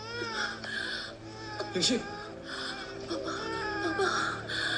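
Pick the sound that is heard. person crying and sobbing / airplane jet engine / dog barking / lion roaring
person crying and sobbing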